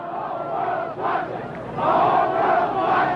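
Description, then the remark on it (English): A large protest crowd outside the 1968 Democratic National Convention in Chicago chants "The whole world is watching" in loud unison, voices surging in rhythmic waves of shouted phrases with a brief dip before the chant swells again. “The whole world is watching, chants the crowd on the side.”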